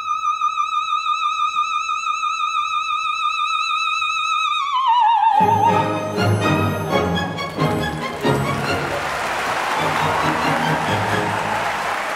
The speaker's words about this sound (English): You know, an Olympia is just standing there receiving this applause and not really able to react to it in a way that's human, which is kind of hard because I just want to break free of the robot and go, thank you, thank you, thank you.